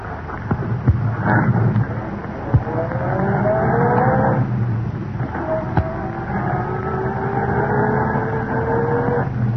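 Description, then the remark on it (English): A car engine revs up and pulls away from the curb outside an apartment building at about 11 o'clock, heading for the shore road, its pitch rising steadily as it accelerates, loud with a continuous mechanical drone throughout. “It was about 11 o'clock when Britt and Cato walked out the front entrance of the apartment building and entered Britt's car at the curb.”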